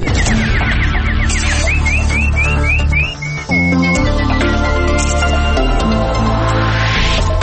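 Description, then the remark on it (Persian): A rapid run of bright, rising chirps of a nightingale, like a songbird's trill, sounds over loud, busy background music, with no talking. “اینک خلاصه خبرها با چهچهه همکارم بلبل.”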